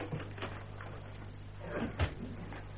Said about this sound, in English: Close the door, will you?